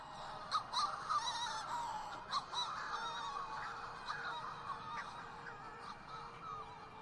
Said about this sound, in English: He wrote about the Shearwater call as a repetition of the expression, "It was your fault, it was your fault,"